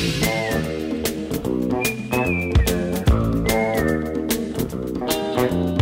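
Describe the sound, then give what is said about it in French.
A person whistles a short tune in brief rising phrases over a full, loud band backing with steady drums and bass; the whistle sits clearly above the music. “On est encore débutants, sifflés en travaillant.”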